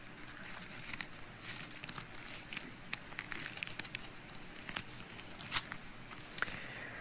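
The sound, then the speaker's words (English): Thin Bible pages rustle and flip over several seconds as someone turns to Romans chapter 5, a steady run of crisp crinkles and soft crackles with a few sharper snaps, fairly quiet, with no one talking. “flip over to Romans chapter 5.”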